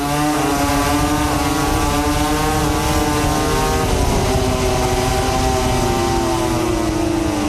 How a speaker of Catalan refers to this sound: Escoltem-les, Ducati, escoltem-les.